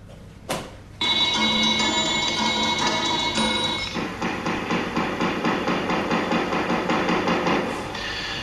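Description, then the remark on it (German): Loud hammering on metal by craftsmen preparing an exhibition at the Kunsthaus in Zürich: a sharp first blow, a stretch of ringing metallic clangs, then a steady run of quick, evenly spaced strikes. No one speaks. “Wie man am Hämmern und Lärmen der Handwerker unschwer erkennen kann, sind hier Vorbereitungen im Gange, und zwar Vorbereitungen für eine Ausstellung”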